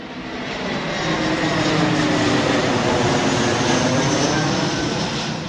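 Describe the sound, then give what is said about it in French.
A loud, steady roar of an airplane flying over Saint-Aignan swells in over the first second and holds as a broad, rushing drone, with a faint rising engine tone underneath. No one speaks. “Ni un éventuel allongement de la piste, ni le bruit des avions ne semblent les inquiéter.”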